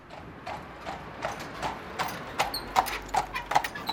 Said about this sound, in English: Two regal white horses with plumes of feathers fastened to their foreheads trot through a borough of the East End. The horses draw a gleaming white carriage.